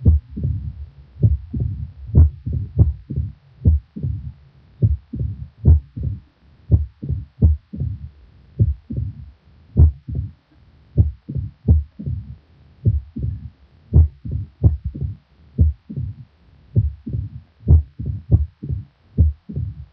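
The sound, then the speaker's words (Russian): Mitral stenosis heart sounds recorded at the first auscultation point of a female patient with mitral stenosis and atrial fibrillation: sharp, low thumps in an uneven rhythm, an accentuated first sound, a mitral opening snap, and a soft, low rumbling diastolic murmur between beats, heard alone without any talking. “Услышанное вами сочетание усиленного первого тона, тона открытия митрального клапана и диастолического шума создает типичную аускультативную картину этого барокко и носит название мелодии или ритма перепела.”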